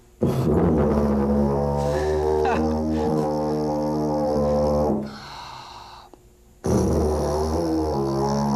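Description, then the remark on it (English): A tuba, played by buzzing the lips, plays deep, buzzy sustained notes with rich low harmonics, shifting pitch a few times, falls quiet briefly, then comes back in loud for another long note. No one speaks. “So you take a big breath and buzz your lips like that.”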